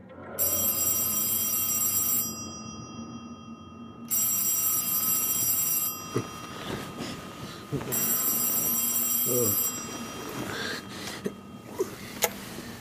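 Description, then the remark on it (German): An old-fashioned telephone bell rings three times in steady, evenly spaced bursts, loud, followed by a few soft clicks and clatter as though a receiver is being lifted. It is a phone call from an assistant doctor, around 12:30 on a clear November night in 1931. “Alles hatte vergleichsweise harmlos gegen 12:30 in einer klaren Novembernacht des Jahres 1931 mit einem Telefonanruf meines Assistenzarztes”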